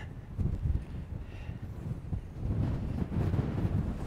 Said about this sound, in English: Oh, sat outside its engine. It's very windy.